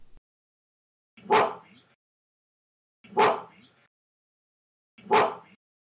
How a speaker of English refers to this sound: Because gorillas do bark. They will mm-hmm. bark when they're angry. Correct. And this is an actual gorilla barking, and it repeats three times.